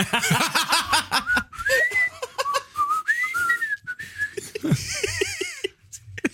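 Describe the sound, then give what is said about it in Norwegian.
Someone whistles a short, wavering melody of rising and falling notes, with bursts of laughter before and after it. “Det er litt sånn som plystringen hjemme hos oss for noen familiemedlemmer.”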